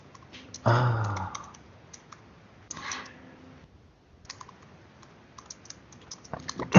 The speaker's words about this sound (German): Irgendwas mit Maus, irgendwas mit auf der Maus klicken.